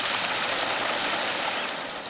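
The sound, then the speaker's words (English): A large flock of starlings calling all at once, their countless overlapping chirps and whistles merging into a dense, steady, hissing wall of chatter with no single call standing out. “Do you think all this noise should be called a murmuration of starlings?”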